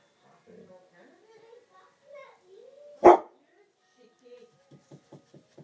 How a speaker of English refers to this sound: Just my dog barking. I don't know what he's barking at. Must be next door or something.